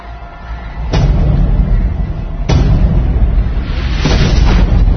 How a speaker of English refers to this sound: A bit of a blind spot, I'm afraid. We just catch the very edge of the explosion. Nasty way to go.